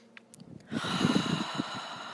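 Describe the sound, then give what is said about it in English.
A person clears their throat and swallows during a yoga pranayama breathing practice: a breathy throat-clearing sound with a rough, rattling hiss that rises after a quiet start and lasts over a second, heard alone without talking. “Again, clear your throat here and swallow.”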